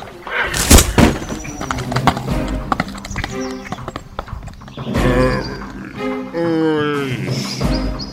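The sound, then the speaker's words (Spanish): A horse, spooked on seeing a mare in heat, neighs loudly and shrilly in several strained bursts as it throws its rider, with a clatter of hooves and a sharp thud early on. “El caballo lo botó y parece que cayó mal, mira.”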